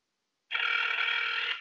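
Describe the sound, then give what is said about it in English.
A steady electronic telephone ring, from a phone call being placed to demonstrate a customer call, starts abruptly after a brief silence and holds at an even, fairly loud level for about a second, with no voices. “Just give me 1 second while I place the phone call.”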